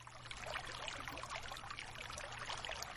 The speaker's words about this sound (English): Just listen to the sound of the water flowing through the middle of your body, sweeping away any tension and allowing you to heal.